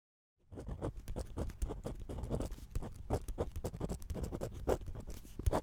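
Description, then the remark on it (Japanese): A ballpoint pen scratches steadily across paper in quick strokes, a continuous dry scribbling that runs for several seconds with short pauses between bursts, no voices present. “どうぞ、ボールペンです。”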